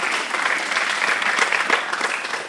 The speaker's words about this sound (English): You don't have to clap, but thank you.